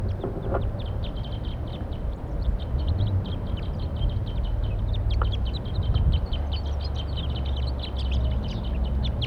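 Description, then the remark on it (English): Wild birds call from a perch over and over in quick, high-pitched chirps that overlap throughout, set against a steady low rumble. No one speaks. “Wild birds calling from a perch.”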